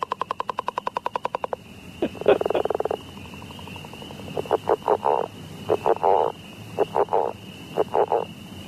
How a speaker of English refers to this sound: And I also think northern leopard frogs sound a little bit like a creaky door in a haunted house kind of thing. Anyway, just coming up with any association. Yeah, let's listen to the northern leopard frogs.